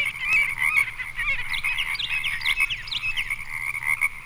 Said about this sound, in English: 104, Marbled Godwit.